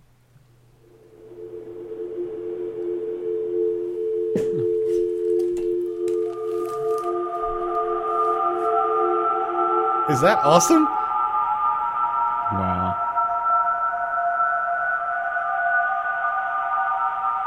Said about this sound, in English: Somebody has taken the handshake, modem handshake, and slowed it down 700%. Shit. Wow. And it sounds like the score to a horror movie.